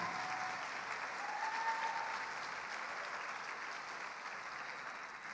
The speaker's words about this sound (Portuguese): agora pode aplaudir Jesus